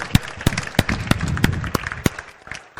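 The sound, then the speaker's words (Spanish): An audience at the close of a conference talk breaks into steady applause for having finished, a dense wash of many hands clapping with a few sharp, louder claps standing out at a quick, fairly regular beat. “Y nada, igual que al principio, que vamos a darnos otro aplauso que hemos conseguido terminar.”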